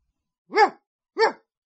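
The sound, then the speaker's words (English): Two sharp dog barks ring out in quick succession, fairly loud, with a short pause between them and silence around them. “The dog followed it.”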